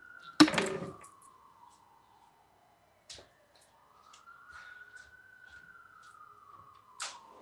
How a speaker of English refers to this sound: Hang on, everybody. I'm just going to shut the door.